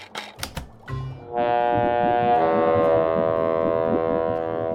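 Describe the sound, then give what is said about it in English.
A few sharp clicks and thumps, then a ship's foghorn lets out one long, loud, steady blast, rich and buzzy with harmonics, holding unbroken until the end. “I didn't know we had a foghorn on board.”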